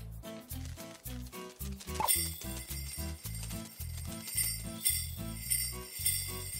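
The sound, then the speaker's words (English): A small sledge bell jingles with a bright, high, shimmering ring that starts a couple of seconds in and keeps going over steady background music with a bouncing bass line. “What's that? It sounds like my bell!”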